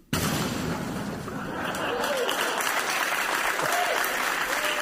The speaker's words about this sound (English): Sometimes I get kind of a nervous applause there by the audience. Then they all join in. That's what I love about Bill Maher. They don't know whether or not to applaud a lot of times.